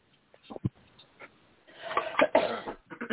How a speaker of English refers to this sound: Excuse me, sorry, don't mean to keep coughing.